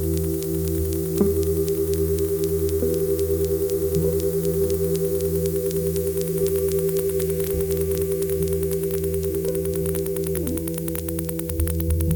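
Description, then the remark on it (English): A loud, steady electrical buzz from an AM radio tuned to a quiet section of the band and used as a detector for AC magnetic fields and dirty electricity, layered with hissing static and rapid crackling clicks that run throughout, constant with no voices. “The sound of loud static hissing and crackling is unmistakable.”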